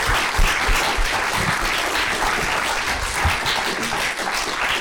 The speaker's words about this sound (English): So while he's in the room, I'm going to give him an opportunity to get applause that he'll hate because he's awesome. So please applaud my husband.